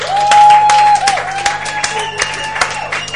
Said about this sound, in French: Merci. Merci à vous pour ce premier set. Je pense qu'il mérite vraiment pas mal d'applaudissements.